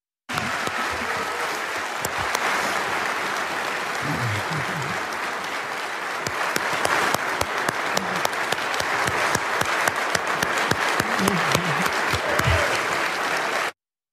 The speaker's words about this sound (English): Volodymyr Zelensky of Ukraine's address to Congress and were heartened by it, were inspired by it, he got thunderous applause from a lot of Congress.